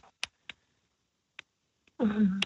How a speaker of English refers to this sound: Are you typing? Do I hear typing? Yes. Good.